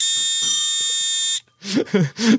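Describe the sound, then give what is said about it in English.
A loud, steady electronic buzzer sounds for over a second with a harsh, rich tone, then cuts off and a person starts speaking. “Yes, I buzzed myself.”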